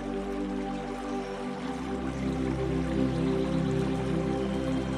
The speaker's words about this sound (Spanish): La mujer de blanco te sugiere meter los pies en el río. Y tú, así decides hacerlo. Te descalzas y metes los pies en el río.